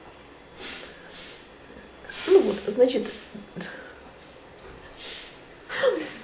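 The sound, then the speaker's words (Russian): A man, about to cough, gives a few short, breathy snorts and gasping intakes, fairly loud, between bits of a man's speech. “Он кашлять собрался.”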